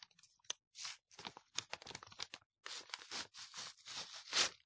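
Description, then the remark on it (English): Two sheets of paper glued together with PVA being slowly pulled and torn apart, a series of crackly ripping bursts broken by short pauses, ending in a louder, sharper tear. “See, just look what happens when you try and pull apart two pieces of paper that have been glued together.”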